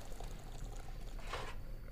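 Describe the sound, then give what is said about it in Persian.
A brief stream of boiling water pours into a teapot, a soft rushing splash swelling near the end over a low steady background hum. “خاتون قوری رو آبجوش میکنه، میذاره رو سر سماور.”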